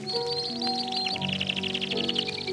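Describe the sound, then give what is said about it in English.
Canaries in an aviary sing a rapid, bright, continuous trill of chirps over steady sustained sentimental piano music, from an old 78 RPM record with a faint background hiss. “This is one of those many recordings of some kind of canary aviary accompanied by some sentimental piano music.”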